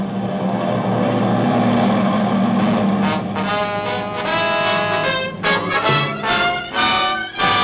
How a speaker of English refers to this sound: Listen. Do you hear that? Is it... Are those planes? There they are. 50. 100.